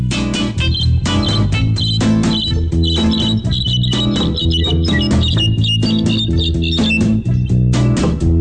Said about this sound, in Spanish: Es muy sencillo. Todos los pájaros tienen su especialidad. Lo mío es cantar. De este modo.